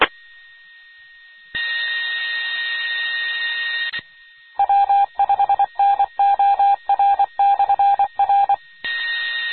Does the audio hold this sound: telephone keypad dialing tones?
yes